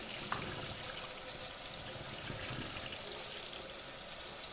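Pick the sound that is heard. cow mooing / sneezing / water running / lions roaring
water running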